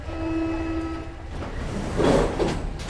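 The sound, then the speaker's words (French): A metro train running to Saint-Michel station, rumbling along with a steady electric whine that fades out after about a second, then louder rattling and clattering surges. No one speaks. “Nous avons pris le métro jusqu'à la station Saint-Michel.”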